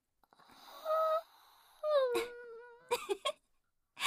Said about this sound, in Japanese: あくびが映った。 やらせるなよ。でもわかる。体育の後って眠くなるよね。